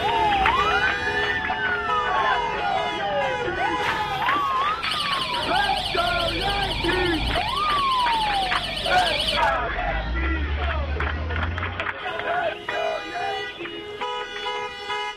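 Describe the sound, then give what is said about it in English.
A dense layered mashup of annoying New York City street sounds nominated by listeners: wailing sirens sweeping up and down in pitch over a steady roar, with chirping alarm tones, beeping, and faint babble of voices underneath. “here it is, as we conclude this segment, a mashup of the most annoying New York City sounds, all of them as nominated by you, our listeners, for our Twitter project.”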